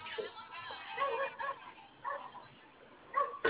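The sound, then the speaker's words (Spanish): A dog barks several times in short, irregular bursts, heard thinly and muffled over a phone line during a call, with a faint background murmur between barks. “Hospitalizado, ¿y hacer por qué se escucha un que perro?”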